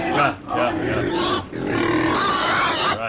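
Pigs grunt and snort loudly and continuously, overlapping rough throaty calls with barely any pause across the short stretch.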